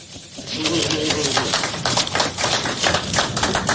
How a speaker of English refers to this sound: The applause is a little stilted because he got the wrong party there, the late member of the Brains Trust.